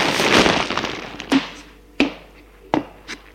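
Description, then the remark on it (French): A front door opening at night: a brief rattling, scraping sweep, then three sharp clunks of the latch and frame spaced about half a second apart, with a softer knock at the end. “C'est la porte d'entrée qui vient de s'ouvrir.”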